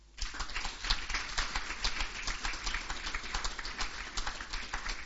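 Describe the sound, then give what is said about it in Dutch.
Steady applause from a crowd at a Dutch ceremony presenting a royal decoration, a dense crackle of many hands clapping at once that keeps an even level for about five seconds. No one speaks over it. “En daar hoort dit applaus alvast bij.”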